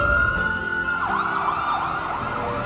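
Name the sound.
alarm siren going off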